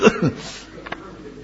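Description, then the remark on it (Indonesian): A short cough bursts out at the start, followed by a brief voiced catch and then near silence with only faint room noise and a small click. “Batuk saya.”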